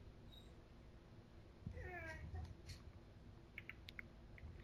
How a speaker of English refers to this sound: What the fuck is that, dude? Oh, that's your dog. Is that RJ? Yeah, that's Bella. Bella's. Is that a cat? No, dude. It's a pit bull.